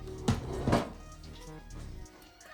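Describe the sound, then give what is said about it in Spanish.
A door slams shut with two heavy, booming thuds in quick succession, loud, followed by a low background murmur fading out. “Ulo, ulo, portazo, tu.”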